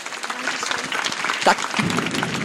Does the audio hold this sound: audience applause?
yes